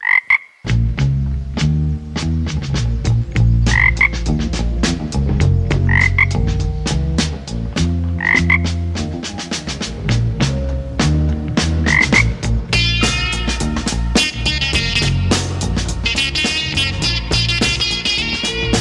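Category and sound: animal, frog croaking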